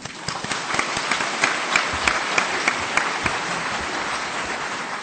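A crowd applauds steadily for about five seconds, a dense wash of many hands clapping at an even, fairly loud level, with a few sharper individual claps standing out.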